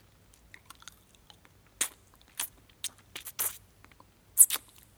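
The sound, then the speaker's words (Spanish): Wet mouth sounds of someone sucking on a pencil tip: a scattering of short, crisp smacks and clicks in an irregular rhythm, a few louder bursts standing out from quiet background. “Chupo la punta del lápiz, pero no saca humo.”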